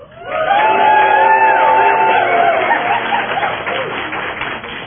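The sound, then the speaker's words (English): A crowd erupts in loud cheering and whoops over steady clapping, the noise rising quickly and holding strong before tapering slightly toward the end, as an audience shows approval for four finalists on stage. “once again, would you read the names, and let's hear your approval.”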